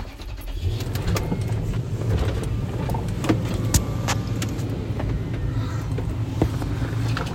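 The power windows of a V8 four-wheel-drive vehicle with no working air conditioning hum steadily downward over a constant low engine rumble from inside the vehicle, with a few light clicks and rattles scattered throughout.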